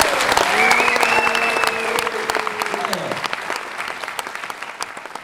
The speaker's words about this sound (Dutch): Dus ik denk dat we onszelf een heel groot applaus mogen geven voor de afgelopen 2 jaar.